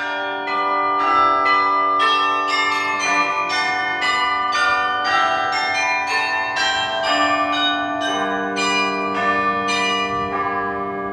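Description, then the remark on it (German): The bells of the Church of Our Lady (Liebfrauenkirche) in Nieuwpoort (Newport), Belgium, peal continuously in overlapping, rhythmic strikes, their rich ringing tones layering over one another at a steady loud level for the whole stretch, with no voices. “Auch die Glocken der Liebfrauenkirche in Newport erinnern an den Krieg.”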